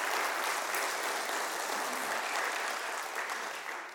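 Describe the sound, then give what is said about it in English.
A crowd in East Palestine claps steadily for several seconds to honour a man's years of ministry, a dense, even wash of many hands with no voices breaking through, tapering slightly at the end. “He has done a tremendous job here in East Palestine, and he also deserves a round of applause for his ministry all these years.”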